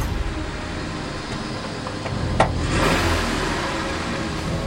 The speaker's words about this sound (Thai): เราสับเกียร์กดเท้าเหยียบคันเร่งรถพุ่งออกจากที่